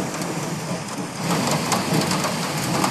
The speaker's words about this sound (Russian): На улице гроза, то есть тут комбо вообще. На улице гроза, и ты как бы уже такой расслабляешься под это.